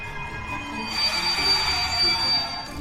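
A train's metal wheels squeal with a thin, high-pitched screech over a steady rumble, swelling after a moment and holding for a couple of seconds as it slows.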